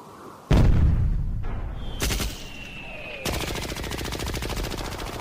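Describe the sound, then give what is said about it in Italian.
Loud bursts of rapid gunfire crackle in Nigeria, with a heavy blast near the start and dense, rattling volleys that continue almost without pause to the end. “Spari come urla, urla come spari. Questo è il nostro paesaggio sonoro principale.”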